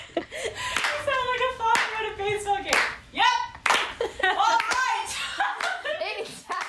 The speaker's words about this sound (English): We were just trying to get the clap track to have like more texture to it and just adding kind of weird ad libs throughout it, but it just ended up kind of going off the rails.